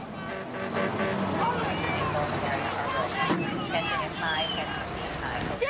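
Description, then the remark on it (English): A heavy fire truck rumbles along past ambulances onto a bridge and brakes with a hiss of air partway through, stopping short of a plane, loud, amid a steady background of crowd chatter and traffic noise. “a fire truck powers towards the scene, passing a fleet of ambulances, and heads onto the bridge, having to stop short of the plane,”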